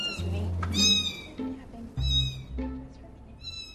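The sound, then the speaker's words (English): Several one-week-old kittens mewing in high, thin, overlapping cries, a handful of short calls in quick succession, over a low background rumble. “John Bradshaw can explain why these one-week-old kittens meow.”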